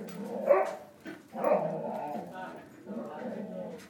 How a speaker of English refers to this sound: I think he came back to see if I was still here. And then he went off. Stupid dog.